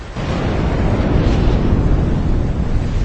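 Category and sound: nature, thunder crash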